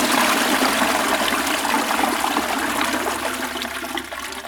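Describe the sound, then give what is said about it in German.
Flowing river water rushes steadily and loudly, a dense continuous wash of splashing noise that eases slightly toward the end. No voices are heard. “Viele Jahre trug er geduldig Menschen von dem einen zu dem anderen Ufer durch den gefährlichen Fluss.”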